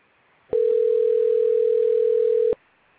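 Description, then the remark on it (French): A single phone ringing tone sounds while a call is put through to a customer advisor: one steady, clear electronic beep lasting about two seconds, fairly loud, with no voices around it. “Patientez, nous allons vous mettre en relation avec un conseiller.”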